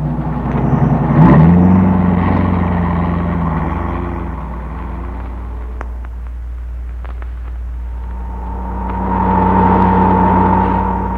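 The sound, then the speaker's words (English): A car engine revs up and pulls away, its rumble rising in pitch as it accelerates, then settles into a steady drone before swelling again toward the end. No voices. “Told the Bureau to have this car ready to pick us up instantly after the truck left.”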